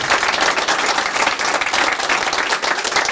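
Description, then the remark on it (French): A crowd applauds steadily for Nolwenn Kermarek, president of the Fédération des promoteurs immobiliers, a dense, continuous wash of many hands clapping at an even loudness throughout, with no voices standing out. “Applaudissements pour Nolwenn Kermarek.”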